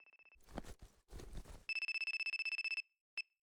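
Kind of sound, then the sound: signal or alarm, mobile phone ringtone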